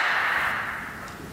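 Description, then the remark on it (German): A bright, hissing wash of sound rings on and slowly fades, echoing back off a smooth, reflective surface that has replaced a perforated one, with a long reverberant tail and no voices. “Wir hatten eine löchrige Oberfläche, jetzt eine glatte. Und nun gibt es viel mehr Echo.”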